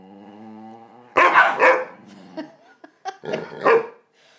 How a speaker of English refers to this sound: Oh, that's a taste of my dogs when they're in a mad mood.